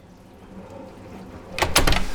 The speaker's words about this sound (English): Oh, the kids have put the dishwasher on. That's good. They're washing the dishes.